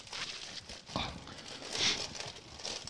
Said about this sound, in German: So, du ziehst aus der Kiste. Ihr hört mich knistern.